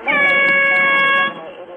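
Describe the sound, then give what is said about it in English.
A single loud, sustained blast from a standard marine air horn (USGC standard), about a second long with a harsh, steady tone that cuts off abruptly, followed by faint background noise. “This is a standard air horn, Phil. It's a Marine air horn, USGC standard.”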